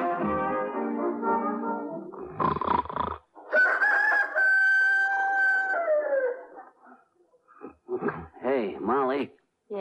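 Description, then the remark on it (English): A person imitates a rooster's crow: one loud, drawn-out cock-a-doodle-doo with a falling end, framed by brief voiced sounds before and after. “Must be morning. I just heard a rooster crowing.”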